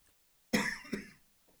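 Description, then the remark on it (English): Two sharp coughs in quick succession by a speaker on live radio, the first stronger and the second shorter, with a rough throat-clearing quality and nothing else around them. “So, live radio, you cough, you got to hit a button, or either everybody shares your cough with you.”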